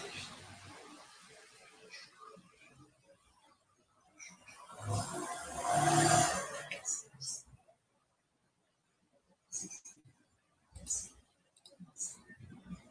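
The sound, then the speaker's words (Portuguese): Keyboard typing: rapid clusters of key clicks that swell into a dense burst, pause in near silence, then return as shorter, scattered runs of taps. “Estou digitando aqui, está caindo.”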